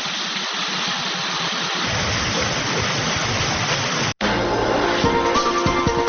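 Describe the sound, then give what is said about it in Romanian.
Waterfall: a steady, loud rushing roar of falling water, dense and hissing, running unbroken for about four seconds before an abrupt cut, after which the rush continues with faint musical tones mixed in. “Mai facem câțiva pași și suntem la cascadă.”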